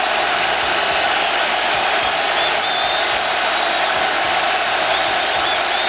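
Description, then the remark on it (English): A huge stadium crowd roars and cheers in a steady, dense wall of noise, with whoops and shouts rising out of the sustained din for several seconds, at a Steelers vs. Dallas game as Prescott throws a touchdown pass to Tolbert on fourth and goal from the 4. “Listen to that crowd.”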